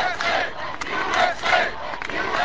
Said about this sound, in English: The president came to Chicago's O'Hare Field during a nearly picture-perfect day. There were clear blue skies and hundreds of chanting, flag-waving airline employees.